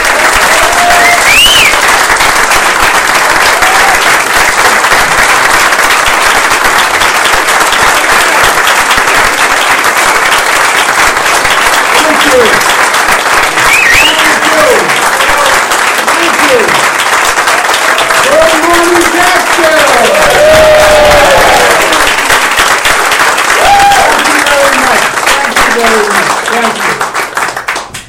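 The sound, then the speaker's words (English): Loud, sustained applause from a large crowd as Andrew Cuomo is introduced as the next governor of New York, dense steady clapping with scattered cheers and whoops rising above it, never letting up. “It is my pleasure to introduce the next governor of New York with your help, Andrew Cuomo.”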